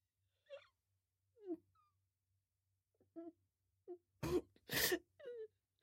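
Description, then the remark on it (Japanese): Quiet crying with happiness: a few short, high, trembling whimpers with pauses between, then two loud breathy sniffles or gasps and a final wavering sob. “嬉しくて泣いてるの？”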